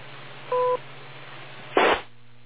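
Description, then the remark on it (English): A single short two-tone timing beep, for checking against a watch, sounds over a steady low hum on a thin, radio-like channel. A brief burst of harsh static follows a moment later. No one speaks. “Wait for the beep.”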